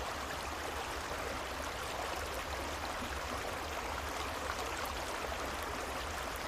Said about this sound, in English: And if you'd like, you can imagine you're laying beside a beautiful, gently flowing creek. And this sound of the creek will go on after the guided portion is over to help you fall deeply asleep.